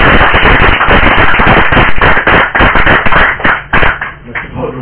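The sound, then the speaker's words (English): A crowd applauds with dense, rapid clapping that stays loud and steady, then thins out a little toward the end. No voices are heard. “gets the most applause, eh?”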